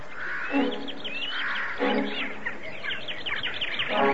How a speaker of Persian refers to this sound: ناگهان پرنده ها دور سر پیرزن شروع به پرواز کردند. سعی کردن پیرزن رو به حال برانند، اما سفید برفی هشدار اونها رو نفهمید.